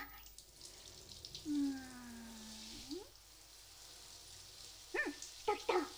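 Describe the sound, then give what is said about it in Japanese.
Shower water runs in a steady, fairly soft hiss as a shower is turned on over an empty bathtub, broken by a drawn-out falling squeal partway through and a few short, squeaky chirps near the end. “じゃあシャワー出します。”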